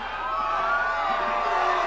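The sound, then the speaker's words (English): A large crowd cheers and whoops continuously, a dense, steady roar of many voices with overlapping shouts and no pauses. “What a crowd.”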